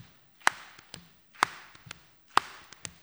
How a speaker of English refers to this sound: You just clap your hands, let one hand slide off and slap your leg and slap the other leg. Try it if you want to.